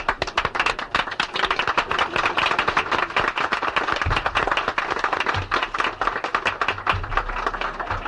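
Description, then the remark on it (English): Loud, sustained applause from a large crowd, a dense wash of many hands clapping steadily for several seconds with no break, welcoming the Vice President of the United States, Hubert Humphrey. “Won't you please welcome, ladies and gentlemen, we have a big crowd here, the Vice President of the United States, Hubert Humphrey.”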